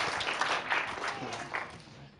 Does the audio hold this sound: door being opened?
no